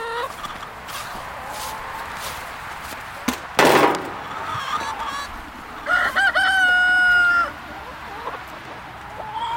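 Hens cluck and murmur steadily in the morning during the morning chores of watering, feeding and opening the laying nests, broken by a brief loud flurry midway and then a long, harmonic rooster crow before the clucking settles again. No voices are heard.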